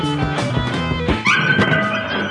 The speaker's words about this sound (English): That's what it sounds like. See, that noise doesn't bother me. My dog makes that noise all the time. Really? It just whinges when it wants stuff like that.